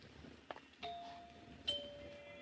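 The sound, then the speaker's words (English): A two-tone doorbell chime rings at a house: a sharp strike followed by a second, each tone sustaining and fading with a clear, bright ring over faint room noise. “Nice chimes. Pretty.”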